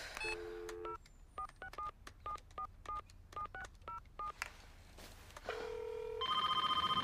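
A cordless phone keypad beeps through about ten quick touch-tone digits, clear, followed by a steady line tone and then a ringing tone as the call goes through. No one speaks. A boy is calling his grandfather on a cordless phone in his bedroom.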